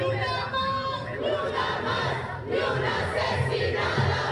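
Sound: protest crowd chanting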